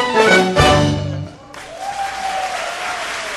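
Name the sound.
concert audience applause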